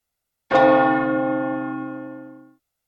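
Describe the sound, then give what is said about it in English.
A single loud strike of a village clock bell, its deep rich tone ringing out clearly and fading slowly over about two seconds, with no voices. “Suddenly, Ben hears the bell from the village clock.”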